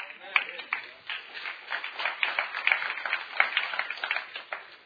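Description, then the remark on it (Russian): Weak audience applause: a thin, scattered patter of hand claps that keeps up steadily for about five seconds at a modest level, without ever building into a full ovation. “Аплодисменты были слабые.”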